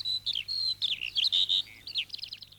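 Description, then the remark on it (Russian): A skylark sings a rapid, unbroken stream of high warbling and trilling notes, clear over a faint low hum, with no voices. “В ту же минуту, слышите, послышался голос жаворонка.”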